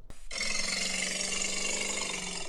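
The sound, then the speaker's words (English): A hippopotamus lets out a loud, raspy, sustained bellow, continuous for a couple of seconds after a brief soft start, with a rough grinding texture and no talking. “Is that all one animal? Yeah. Hippopotamus.”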